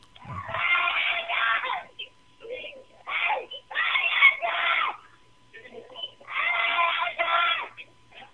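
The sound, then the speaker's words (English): A child in a store screams and wails in repeated long, shrill bursts with short pauses between, recorded on a cell phone from about five checkout lanes away, with thin, tinny phone-quality sound. “She comes to the line next to me, and she's waiting on line, and the kid is still screaming.”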